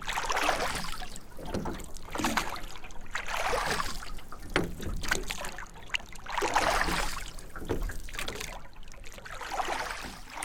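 Oars splash rhythmically into water, a broad swooshing surge roughly every two seconds as a rowing boat crewed by three men from Norfolk pulls steadily across the Pacific Ocean on a 2,800-mile row from California to Hawaii, with no voices, just the repeated strokes and churning water.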